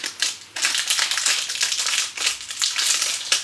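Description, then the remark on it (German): Crisp crackling and crunching as a fortune cookie is broken open over a rustling bag, a dense run of irregular snaps and crinkles with no voices. “So, dein erster Glückskeks.”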